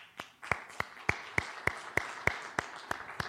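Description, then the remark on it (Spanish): An audience at a church service applauds for Jesus Christ with steady, rhythmic clapping in unison, about eleven sharp claps at an even pace of roughly three per second, with no talking over it. “¿Le damos un aplauso a nuestro Señor Jesucristo?”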